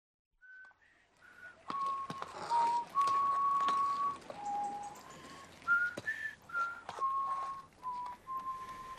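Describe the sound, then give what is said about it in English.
A cab driver whistles a wavering tune impatiently, sliding between sustained notes in short bursts, with faint clatter and background noise behind the whistle. “I think I detect impatience in our driver's whistling.”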